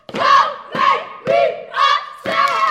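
The eight-member Kelly Miller Middle School step team, reviewing step combinations, shouts in unison in five rhythmic bursts, each one punched by sharp stomps and claps, loud and echoing through the school's hallways.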